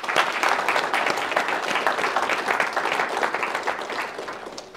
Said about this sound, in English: So I do want to ask all of you to join me in giving a big round of applause to the committee of the Muslim Student Association here in the Southeast Technological University in Waterford.